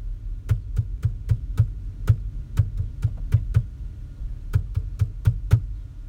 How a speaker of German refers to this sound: Ich habe alle meine Entchen geklopft und wahrscheinlich kennt jeder von, also kennst du das, wenn du das jetzt hörst?